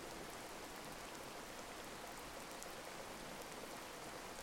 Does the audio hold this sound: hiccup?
no